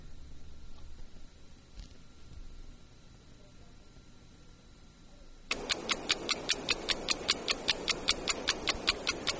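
After several seconds of faint low hum, a clock's ticking starts abruptly: crisp, evenly spaced ticks, roughly four per second, sounding close and fairly loud.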